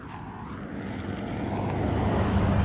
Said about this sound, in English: Just gonna stop while this truck goes by.